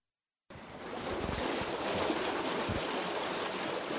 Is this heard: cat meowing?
no